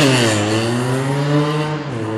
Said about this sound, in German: … und ich haben heute das erste Mal gemeinsam diesen Intro-Jingle angehört, während die Aufnahme schon läuft